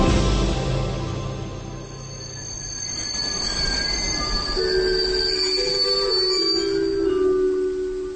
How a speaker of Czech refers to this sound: A teď bych vás rád pozval na malou, nevšední projížďku vlakem.